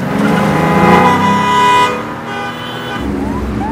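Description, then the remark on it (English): A car roars amid blaring horns and busy street noise as it is thrown into reverse and swerves back onto an avenue, loud for a couple of seconds before easing off, then an engine whines upward as it pulls away. “Now the man throws the car in reverse and swerves back onto the avenue.”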